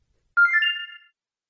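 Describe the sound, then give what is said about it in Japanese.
A short electronic telephone ring, one clear melodic chirp of bright tones lasting under a second, heard alone with no voices. “自宅の電話が鳴ると同時に犬が吠え始める。もしくは、携帯電話の音が鳴り始めて反応して吠え始める。”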